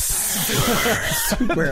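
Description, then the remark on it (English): A voice draws out a long, steady hissing S, like a snake's hiss, at the start of the word "super", with a faint voiced tone underneath and a brief breathy change near the end. “Actually going to say the word super, but with that really long S sound on it.”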